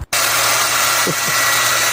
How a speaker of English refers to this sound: I might need to bring out the leaf blower.